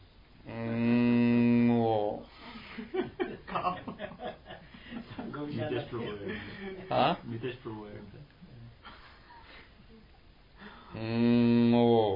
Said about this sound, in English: And maybe some of the devotees in Melbourne, when someone calls them, it goes, Moo.